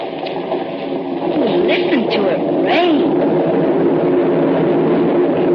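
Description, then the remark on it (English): Heavy rain pours down in a steady, dense hiss that fills the whole clip, heard from inside a big cave, with faint voices murmuring underneath. “Listen to it rain.”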